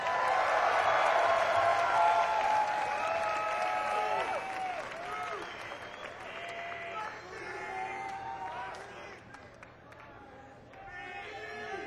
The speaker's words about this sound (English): How about a big hand for Space Dog?